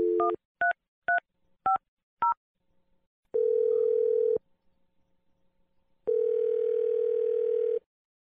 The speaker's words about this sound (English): Here we go. I'm dialing the number now.